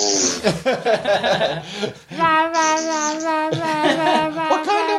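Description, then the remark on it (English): Several children in the background shriek and squeal in high-pitched, drawn-out cries, fairly loud and continuous, with a brief choppy burst of kid voices before the sustained screaming takes over. “You need to do that as a sound clip, the kids screaming in the background.”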